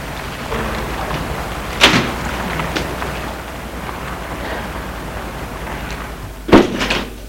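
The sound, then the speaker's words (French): A woman opens the door of her building's entrance hallway, with a sharp latch clunk early on and a second solid knock a few seconds later, over a steady low hum with no talking. “Elle va ouvrir la porte de son allée.”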